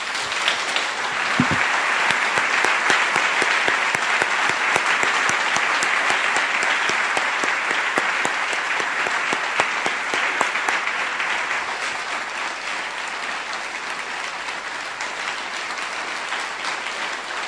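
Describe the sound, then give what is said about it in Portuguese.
An audience applauds God, 'the author of our life', steadily: a dense wash of many hands clapping at a fairly loud, even level that holds throughout and eases slightly toward the end, with no voices standing out. “Aplauda aquele que é o autor da nossa vida.”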